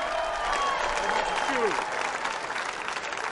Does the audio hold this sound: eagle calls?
no